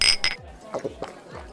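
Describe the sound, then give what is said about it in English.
Glasses clink together in a toast, two bright taps right at the start, followed by a few softer knocks and faint rustling as they are pulled back. “And I will continue to drink to that. Cheers again.”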